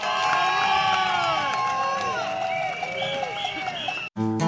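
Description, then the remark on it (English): A large audience on 42nd Street cheers loudly, with sustained shouting, whoops and high whistles over a steady wash of clapping, continuing for about four seconds before cutting off abruptly. “I also want to thank God for definitely coming out, because everybody deserves the biggest hand clap on 42nd Street, because they don't know how to have us.”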